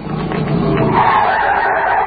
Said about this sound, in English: and when the officer up ahead waves his arm at you, slam on the brakes and stop fast.